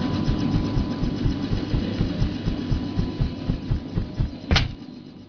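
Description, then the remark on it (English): A transport helicopter engine drones steadily while rotor blades beat a fast, regular low thump throughout as someone climbs down a rope out of it, with a brief sharp burst of noise near the end. No one speaks. “Let me just climb down the rope out of our trusty transport chopper here, and we'll start the hunt.”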